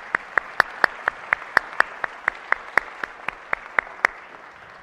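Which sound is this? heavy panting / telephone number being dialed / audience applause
audience applause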